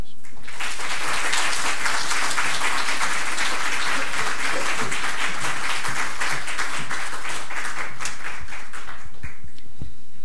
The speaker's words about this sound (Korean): 우리 선교사님 나오실 때에 우리 박수로 환영하겠습니다.